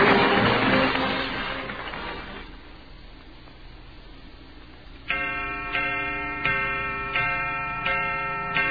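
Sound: clock chime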